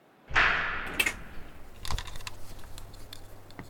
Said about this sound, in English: The doors are now opening.